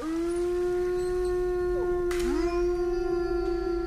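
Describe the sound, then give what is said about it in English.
A wolf howls in one long, steady, mournful note that holds throughout, with a second voice sliding up briefly partway through; loud, with no talking. “Of course, the king of them all would be the wolf, wouldn't it?”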